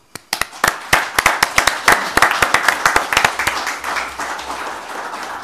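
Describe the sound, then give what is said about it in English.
A crowd of council meeting attendees at an AGM applauds, dense overlapping hand claps starting abruptly, holding steady for several seconds, then thinning out as the clapping fades away. “I think you all deserve a round of applause.”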